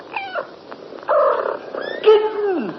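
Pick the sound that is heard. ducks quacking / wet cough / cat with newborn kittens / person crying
cat with newborn kittens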